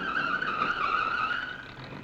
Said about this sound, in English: The answer to that's in the car now approaching.